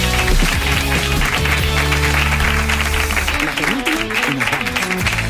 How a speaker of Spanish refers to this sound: Gracias, gracias. Un aplauso para